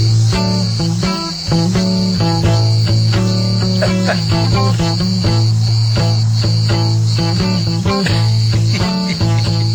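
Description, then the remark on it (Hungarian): A loud, dense chorus of Greek cicadas chirping, buzzing steadily and without pause for the whole stretch, intense with a shrill, pulsing drone and no voices. “Ja, Istenem, azok a görög kabócák.”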